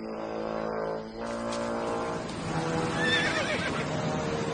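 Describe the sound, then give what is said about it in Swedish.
A horse gives a long, loud whinny, its shrill, wavering cry rising and trembling over several seconds with no one speaking. “Är det inte din häst som går där nere?”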